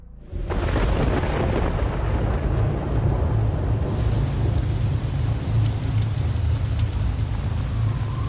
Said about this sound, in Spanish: Tras 8 días de lluvia constante.